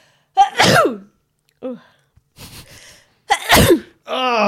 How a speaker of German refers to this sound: Warum machst du das denn mitten ins Mikrofon rein? Ja, weil ich nochmal einen Ton haben wollte von mir mit Niesen. Hast du doch schon. Haben wir schon. Ja, Second Edition. Schön auf den Plopschutz drauf geballert, die Viren aber und Bakterien.